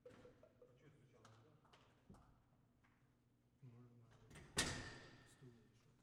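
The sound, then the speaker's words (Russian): Someone knocks on a door a few times, scattered light taps followed by one louder, sharper bang, while people talk. “открой дверь, пойди, кто-то стучит.”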